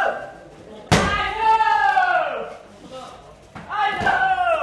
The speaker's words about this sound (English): he unleashes a series of powerful spin kicks against a padded target held by a trainer.